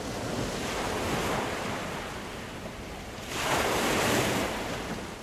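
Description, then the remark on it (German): Ocean waves break on a shore in a steady roar, with two louder surges as swells crash and wash in, plus some wind rushing across the microphone. No one speaks. “Die Antwort hat der SRF-Redaktor Samuel Buri, der hier sozusagen den Meeresfluten entsteigt.”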